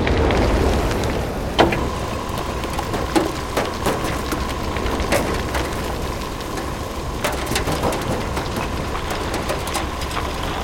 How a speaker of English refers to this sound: Copy that. Storm's getting bad. It's going to kill comms between here and the rover.